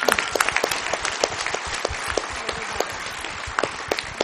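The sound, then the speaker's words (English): A church audience at an all-age service claps steadily for the boys and girls who knew all the kings of Judah, dense overlapping hand claps with scattered sharper slaps standing out, sustained and fairly loud throughout with no talking. “Should we give them a round of applause again?”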